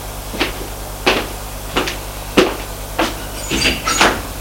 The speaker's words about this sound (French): Elle quitte l'appartement. Elle va ouvrir la porte qui est en face du sien.